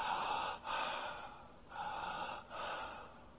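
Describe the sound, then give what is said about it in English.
A person imitates the labored, gasping breathing of someone near death: four or so heavy, raspy breaths in quick succession, separated by brief catches, close up and without any speech. “What did they do in the last 24 to 48 hours? They started to breathe like this.”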